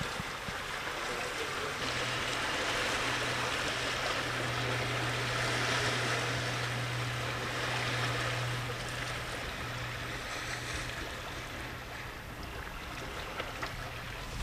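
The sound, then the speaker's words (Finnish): Sea water sloshes and splashes steadily outside a stone gun port holding an old muzzle-loading cannon at Suomenlinna, a continuous broad wash of waves with a low, droning hum running underneath, no voices. “Ja meri loiskua tuolla ampuma-aukon toisella puolella.”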